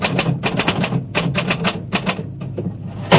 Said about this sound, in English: That's her typewriter.